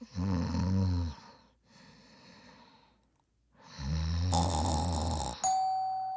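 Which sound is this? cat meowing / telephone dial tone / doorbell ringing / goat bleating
doorbell ringing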